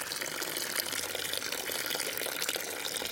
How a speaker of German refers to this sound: Der Pfarrer schöpfte dem kleinen Till Eulenspiegel ein bisschen viel Wasser über den Kopf.